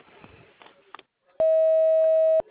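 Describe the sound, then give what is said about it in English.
A single long, steady electronic beep at a mid-high pitch, loud and constant for about a second, following some faint muffled sounds: an answering machine's beep after its greeting, signalling to start recording a message. “the beep.”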